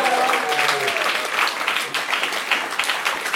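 A theatre audience applauds steadily, a dense wash of many hands clapping at once, loud and sustained throughout with a faint voice briefly audible at the start.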